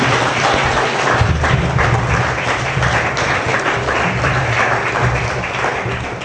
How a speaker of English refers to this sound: So please give a warm round of applause for Larry Pratt, Gun Owners of America.